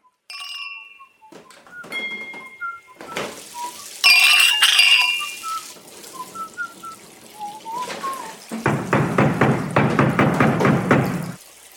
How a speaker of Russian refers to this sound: Поздний вечер в одной из европейских столиц. Трактир невысокого пошива. Ввиду позднего времени посетителей в трактире нет. Хозяин неторопливо перемывает посуду.